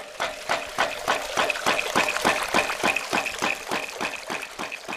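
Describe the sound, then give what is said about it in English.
Water surges through a ram pump in a steady, rapid pulse, about four beats a second, each beat a wet splashing thump as water from a collection point pushes into the pump and spills through a valve into a section above, with no talking. “When the water from the collection point pushes into the ram pump, it spills through a valve into a section above.”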